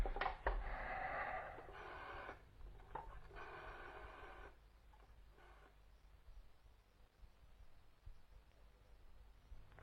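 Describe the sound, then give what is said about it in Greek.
A telephone is dialed in a few short mechanical bursts over the first seconds, followed by quieter ringing on the line. No voices. “Τηλεφώνησε αμέσως στον Τζέι στον αριθμό που άφησε.”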